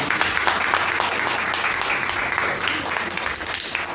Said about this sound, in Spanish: A ellos gracias, gracias por todo. Un aplauso enorme.